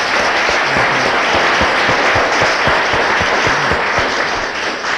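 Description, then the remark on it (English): A crowd applauds steadily for five seconds, honoring a farmer in the audience who farmed land for 20 years. A dense, loud wash of many hands clapping at once, with a few sharper individual claps standing out, and no voices. “You should appreciate that applause, because it's probably the only applause you ever got in your life for being a farmer.”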